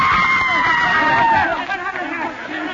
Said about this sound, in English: Others had seen it, too. A woman in the audience screamed.